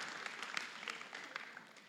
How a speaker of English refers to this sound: Can we just give them one more hand of applause?